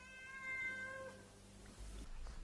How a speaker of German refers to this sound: Das da, ja, das höre ich schon lange. Dummes Gemaunze. Wie kannst du dir nur denken, dass das von mir kommt? Noch nie in meinem Leben habe ich gemiaut.